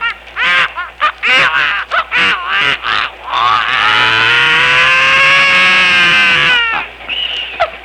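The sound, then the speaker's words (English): The opening clarinet cadenza of a piece: a reedy clarinet plays a quick run of short staccato notes, then swells into one long sustained tone that slides steadily upward in pitch before breaking off, with a brief soft note after. “That's the way the clarinet cadenza I open with goes.”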